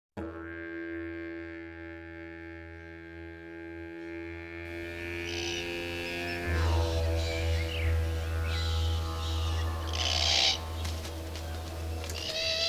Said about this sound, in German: Gregor's Road, mitten auf Kangaroo Island. Bodennebel wabert durch den Busch. Das Krächzen und Kreischen eines Braunkopf-Rabenkakadu-Paares ist zu hören.